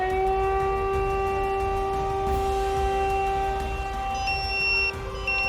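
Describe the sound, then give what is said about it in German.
A fire brigade alarm siren, set off at 17:17 by the fire service control centre for a caravan fire at a campsite, wails with a steady, sustained tone and strong harmonics, holding loud and constant over a low rumbling background, with a faint higher tone entering near the end. “17.17 Uhr löst die Leitstelle der Feuerwehr Alarm aus.”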